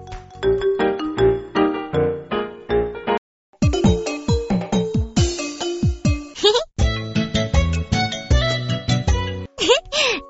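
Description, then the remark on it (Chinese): A loud, bright electronic mobile phone ringtone for an incoming call plays a busy melody during a power outage, breaks off for a moment, then continues with several more tinkly tune phrases. “啦啦啦，看我来玩来电打铃。”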